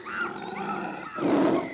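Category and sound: animal, lion roaring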